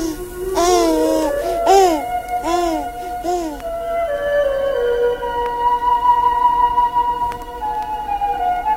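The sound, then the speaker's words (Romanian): A baby babbles its first word in four short, sing-song vocal bursts with rising and falling pitch, followed by softer steady tones in the background. “Bulgăraș de aur, primul cuvânt rostit de tine încălzește sufletul.”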